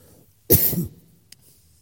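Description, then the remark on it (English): A single harsh cough through a face mask, fairly loud, lasting under half a second before the room falls quiet except for a faint click. “Problem with this thing on your mouth is you can't get your mouth the way to cough.”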